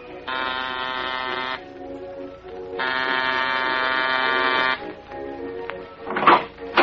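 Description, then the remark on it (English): A doorbell buzzer at the side door of a boarded-up, closed Museum of Murder in a ramshackle amusement area off a public highway sounds twice, a harsh, steady electric drone, first a short press and then a longer one, followed by a brief clatter. “There's a bell here. This side door.”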